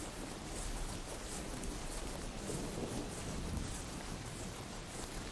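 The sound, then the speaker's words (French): Steady rain pours down continuously over a prairie while low thunder rumbles and rolls beneath it as lightning streaks the darkening sky, a dense, even wash of storm noise with no voices. “Vous rouvrez les yeux et apercevez au loin le ciel s'obscurcir et se zébrer d'un éclair qui vient jeter un ray de lumière sur la prairie lointaine.”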